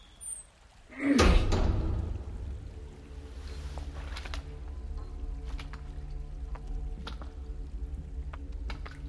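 A heavy door in a paved underground passage bangs and grinds open with a loud, low thud, then a long deep rumbling drone continues underneath, broken by scattered faint clicks and creaks. No voices.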